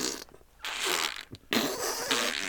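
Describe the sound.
Someone makes fart noises with their mouth: a short sputter, then two longer buzzy, wet blasts separated by a brief pause. The sound is fairly loud, with no talking.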